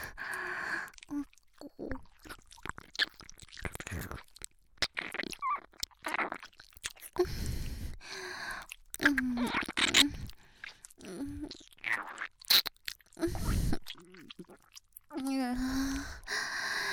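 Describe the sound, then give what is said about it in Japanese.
Wet ear-licking mouth sounds: irregular slurps, smacks and sticky clicks in uneven bursts, interspersed with soft breathy exhales and brief voiced murmurs, moderately loud throughout. “耳をなめしゃべってるだけなのに”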